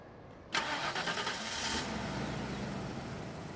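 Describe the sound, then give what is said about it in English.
A car engine with a brand new muffler cranks and catches at about half a second, then settles into a steady, fairly quiet idle with a smooth low rumble and no voices. “First, I'll play a recording of a car running with a brand new muffler.”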